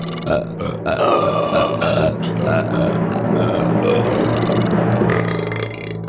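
human body sound, burping

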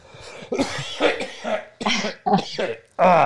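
human body sound, coughing

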